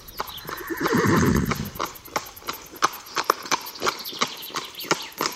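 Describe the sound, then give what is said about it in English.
A horse lets out a loud, drawn-out whinny, followed by hooves clip-clopping in a steady, slightly uneven rhythm on a hard surface. “My great-grandma rode a horse. She rode it to school.”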